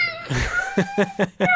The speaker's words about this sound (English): So, anyway. We hear kitties. What am I hearing?